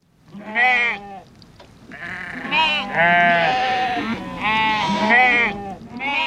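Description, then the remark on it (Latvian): Several sheep bleat in overlapping, wavering cries, one after another with hardly a pause, loud as if a small flock is calling together. “Par to, kāpēc šai šķirnei ir spēcīgi nagi, kāpēc aitas svīst tauku sviedrus – un cik inteliģenti ir šie dzīvnieki, par to stāsta Latvijas Biozinātņu un tehnoloģiju universitātes profesore”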